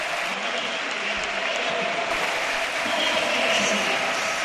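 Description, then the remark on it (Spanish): A football stadium crowd in the stands gives a sustained ovation as players Panda and Aitor leave the pitch during a substitution, dense clapping and cheering forming a steady, loud wash of noise that swells slightly toward the end. “Se marchará Aitor Rival con Toyota Espalcaraz, la ovación en la grada.”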